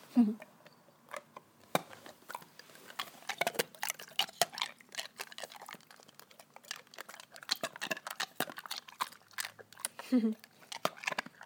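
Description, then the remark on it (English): An animal crunches ice cubes in very hot weather: irregular bursts of sharp, brittle cracking and chewing sounds repeat throughout, with small grinding crunches between louder snaps. “He loves crunching the ice, especially at the moment because it's very hot.”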